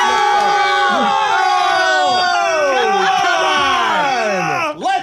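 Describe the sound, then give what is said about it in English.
A crowd of voices yells and cheers together, loud, with overlapping whoops and shouts sustained throughout before breaking off abruptly near the end. “Okay, now you can yell.”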